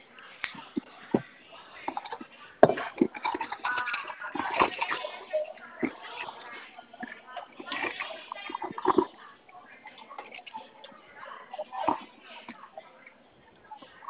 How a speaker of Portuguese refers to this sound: Ixi, tem um trem derramando dentro da minha bolsa.